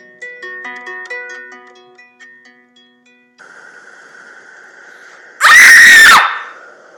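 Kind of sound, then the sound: human body sound, girl screaming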